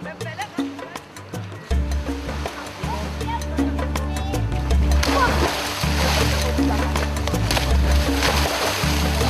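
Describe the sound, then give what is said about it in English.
Water splashes and churns steadily along a beach on Zanzibar in the Indian Ocean as fishing boats sail back and ships disembark passengers, growing busier and louder halfway through, with indistinct voices and a low droning rhythm running underneath. “After a busy day in the Indian Ocean, the fishing boats sail back, and the ships disembark new passengers on the Zanzibar beach.”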